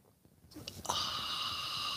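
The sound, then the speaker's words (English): A breathy sip of a drink: a few short slurping catches give way to a steady airy slurp that carries on for over a second, with no talking. “It's called the simultaneous sip.”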